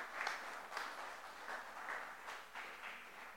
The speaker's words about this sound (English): Can we give the Lord a hand clap of praise and appreciation? Amen.